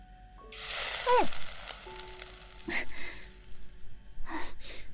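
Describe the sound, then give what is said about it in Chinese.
Sausages hit hot oil in a pan with a loud, hissing sizzle that quickly fades. A sharp gasp cuts in near the start as hot oil splashes the cook, then scattered pops and brief hissy bursts follow. “再煎点香肠。”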